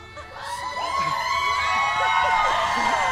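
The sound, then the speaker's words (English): A studio audience cheers and whoops loudly as a guest walks through the crowd and sits down, a dense wash of many voices with high-pitched shouts rising and falling throughout, building slightly and holding steady. “So this is sort of like we're all sitting there waiting. He walks through the crowd.”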